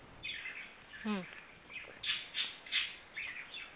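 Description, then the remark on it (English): A pet parakeet named Birdie Bird chirps and squawks repeatedly in quick, bright bursts, with a sharp descending trill partway through; no one talks over it. “I'm hearing a lot of birds. Do you have birds there? That's my parakeet.”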